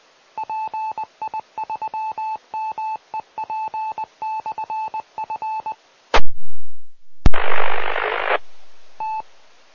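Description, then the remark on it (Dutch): A rapid string of short dial-tone beeps gives way to a sharp crackle and then about a second of loud radio static hiss on a transceiver during an amateur radio check-in round, with no voices. “Dat was alleen ruis.”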